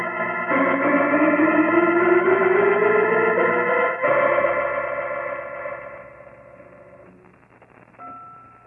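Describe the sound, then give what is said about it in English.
A loud, clashing wash of church bells in a bell tower rings at once in a dense, chaotic jumble of overlapping tones. It swells for several seconds, then thins out and fades, with a few last strokes. “Holmes, great Scott! Listen to those bells!”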